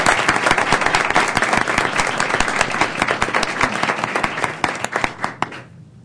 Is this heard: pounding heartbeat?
no